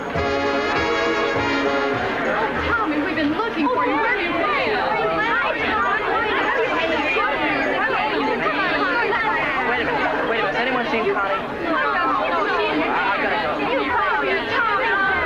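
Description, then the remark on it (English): Dense crowd chatter from a packed prom dance floor at night, many overlapping voices merging into a loud, steady hubbub with no single speaker standing out, continuous throughout. “That night at the prom, the dance floor is packed.”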